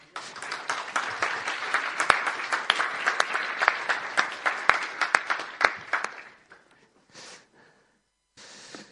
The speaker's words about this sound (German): Guten Morgen, ihr Lieben. Mögt ihr mal unserem Herrn einen Applaus geben?